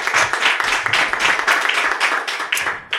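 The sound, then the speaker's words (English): A crowd applauds a visiting band steadily, a dense wash of many hands clapping at a loud, even level, tapering briefly near the end before a final burst. “Everybody, a big round of applause”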